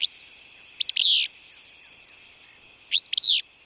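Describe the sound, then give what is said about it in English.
Willow flycatcher song: two sharp, buzzy two-part phrases, a quick note sliding into a burry sneeze, repeated about two seconds apart, over a faint steady insect hum. “And there, it's again the insects that sustain birds, like this willow flycatcher, through the summer.”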